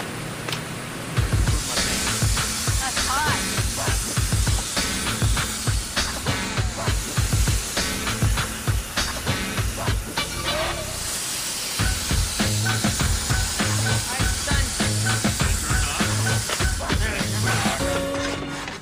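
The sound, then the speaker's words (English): An automatic cutting machine, guided by an electronic eye following a pattern, cuts a piece of armor plate out of steel with a loud, steady hissing roar, broken by irregular low thumps and clanks that continue throughout without any talking. “This part of the machine is the electronic eye. It follows this pattern, and it will cut out over here on the steel the piece of armor plate that will match this.”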